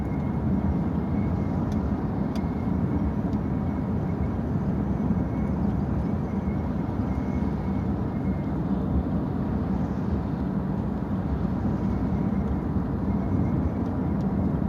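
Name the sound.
car interior noise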